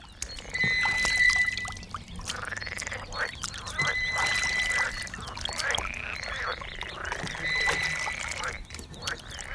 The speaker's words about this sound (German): Und zum Schluss werden alle fertigen Geräusche übereinander gelegt. Hinzu kommen noch ein paar Frösche, um das Ganze lebendiger zu gestalten.